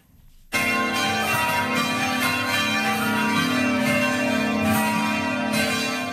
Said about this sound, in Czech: U znak vaskršnje radosti na svim pravoslavnim hramovima tačno u ponoć oglasila su se zvona.